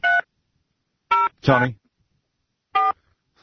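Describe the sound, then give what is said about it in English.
Three short electronic tones from a telephone keypad being dialed during a phone problem, spaced irregularly, with a brief voiced sound between the second and third beeps. “We're having a little phone issue here”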